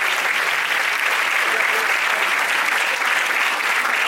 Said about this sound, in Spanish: Descanse en paz, Víctor, un aplauso. Un aplauso, vale, qué maravilla.